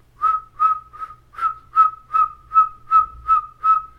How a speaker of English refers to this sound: Women on that side, men on this side, with their eagle whistles.